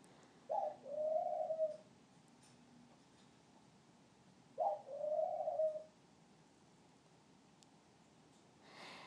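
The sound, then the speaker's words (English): A ring-necked dove coos twice, each call a short clipped note running into a longer, low rolling coo, separated by a few seconds of quiet with faint background hiss and no talking. “Ring-necked doves are very placid, docile animals, and one of the few birds that actually you can hold and cuddle.”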